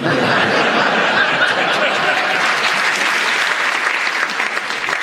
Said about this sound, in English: Only because you've got a round of applause